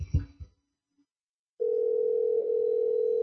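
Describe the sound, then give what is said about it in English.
A brief burst of sound, then a silent pause, followed by a steady, loud telephone dial tone that holds continuously without a break until the end. “I think they wanted to talk, but they forgot how to use a phone because it isn't one of those old crank ones from the 20s.”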